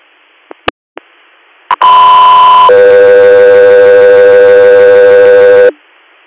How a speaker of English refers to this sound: stand by for tones.